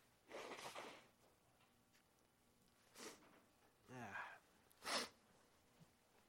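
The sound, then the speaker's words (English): Several forceful bursts of nose blowing, a long honk followed by shorter blasts a few seconds apart, with a brief murmured voice between them and a quiet background. “Excuse me while I blow my nose.”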